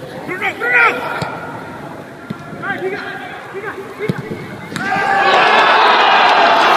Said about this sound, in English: Now that was a goal, but there's only about 100 people in the whole stadium cheering